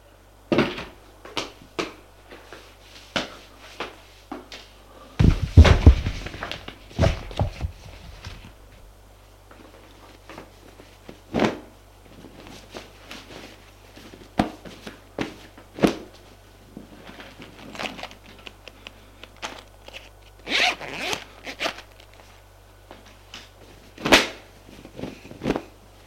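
A man getting dressed in his bedroom amid scattered clicks, taps and rustles, with cupboard and drawer handling and a louder knock-and-scrape burst early on; no talking, just irregular household handling noises throughout.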